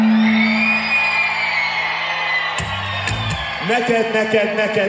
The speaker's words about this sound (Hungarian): Tapsolunk meg ezúttal titeket! Nagyon szépen köszönjük!